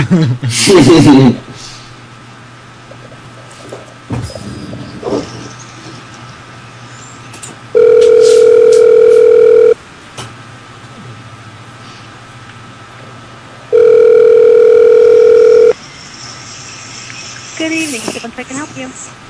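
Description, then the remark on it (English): A phone line rings out twice with the steady electronic ringback tone of an outgoing call placed to be put through to a room, each ring about two seconds long with a pause between, over faint background noise. “It's a bitch when you get these ones that won't automatically dial to the room.”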